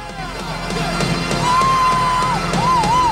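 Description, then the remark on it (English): A packed crowd of fans cheers and claps steadily as a man strides through them, with whoops and a sliding whistle rising above the dense roar of voices; sharp applause spikes punctuate the continuous, loud din. “He gets to his feet and strides through fans who clap, cheer, and pat him on the shoulder.”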